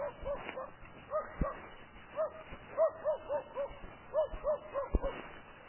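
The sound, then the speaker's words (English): A dog barks in a steady run of short, yappy bursts mixed with high whimpering yips, moderately loud, with a few sharp knocks in between. “This is really scary, dog.”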